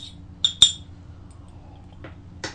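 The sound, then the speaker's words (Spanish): A few bright, short glass clinks, two close together near the start and two more later, over a low steady hum, as a glass is lifted and set down for a second sip of a drink. No one speaks. “me voy a dar el segundo sorbito del día”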